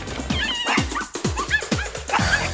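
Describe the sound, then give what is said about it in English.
Several small dogs, a Yorkshire Terrier named Bimini, a poodle named Delta and a pug named Sebastian, yap in rapid, overlapping bursts, sharp high-pitched barks tumbling over one another, loud, with no pauses. “She struggles to close the front door, then glares at the yapping mutts.”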